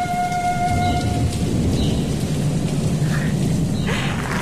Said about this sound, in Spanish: Al día siguiente, vino una tormenta.